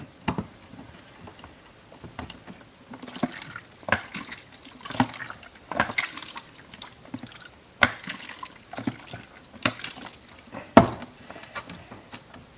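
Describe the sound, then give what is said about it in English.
Liquid sloshes inside a closed film developing tank as it is inverted four times per minute during film processing, with irregular splashing surges and a few sharp knocks, moderately loud, no talking. “4 inversions per minute it calls for. Get that lid on good and tight so we don't lose any of it.”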